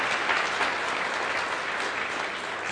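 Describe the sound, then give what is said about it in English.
Steady applause from an audience for Sunday school staff, helpers and volunteers, many hands clapping together in a dense, continuous wash of sound that holds at an even level throughout. “Let's give them a round of applause again.”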